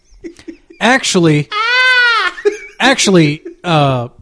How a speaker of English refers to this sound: Can we have the screaming goat on the show? Yeah, that's fine. Like that sound clip.